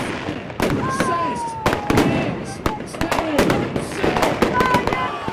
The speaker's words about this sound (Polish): Uznaliśmy, że będzie na pewno bardzo fajny pokaz fajerwerek, więc czemu nie?